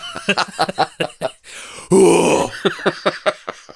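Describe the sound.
Amid conversation, a voice imitates the grunting scream of tennis players on TV: a sharp breath, then one loud, strained, half-second groaning yell before the talking picks back up.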